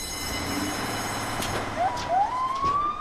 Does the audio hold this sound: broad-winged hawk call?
no